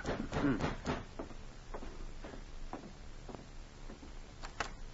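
A series of sharp knocks on the wooden door of a police cabin very late at night, about a dozen irregularly spaced taps heard alone at a modest level, with a quick cluster at the start.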